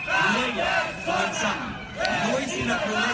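A crowd shouts and jeers together in a dense, continuous roar of overlapping voices, loud throughout with a brief dip in the middle before the yelling surges again, disrupting a rally by Manuel Valls, the Ciudadanos candidate for mayor, in a square in the Raval, Barcelona.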